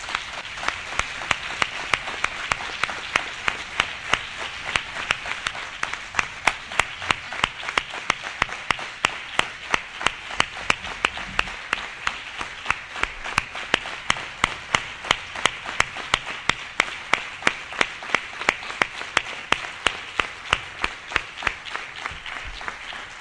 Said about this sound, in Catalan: que sàpiguis que des d'aquí hi ha hagut un fortíssim aplaudiment. Segur que ha arribat a on ets.